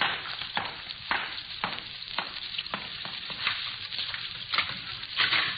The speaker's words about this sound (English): Water's running someplace. Wait a minute. Yeah. Sounds like it's come from over there.